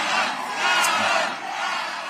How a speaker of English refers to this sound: And I understand that Schiff's election night party was almost taken over by people protesting the situation in Gaza. Yeah, listen to this. This is how it sounded there.